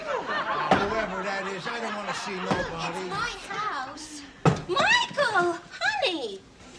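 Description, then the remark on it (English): A man listlessly bangs on a front door: a few slow, heavy bangs spaced seconds apart, while voices talk and chuckle throughout. “He listlessly bangs on the door.”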